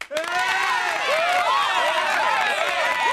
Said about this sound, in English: The thing that's really nice about our cheering section is they're consistent. They show no bias. They give a very equal cheer to everyone.